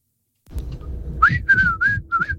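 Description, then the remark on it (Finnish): A quick human whistle by a listener: four short, bright notes in fast succession, the first sliding upward, over a low background rumble. “Otetaan meidän kuulijan … nopea vihellys tähän näin.”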